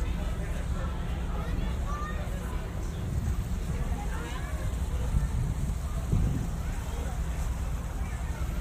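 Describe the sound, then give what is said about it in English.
A boat chugs steadily on the water, its constant low engine rumble mixed with wind buffeting and splashing, while indistinct voices murmur faintly in the background. “The boat's keeping us right here.”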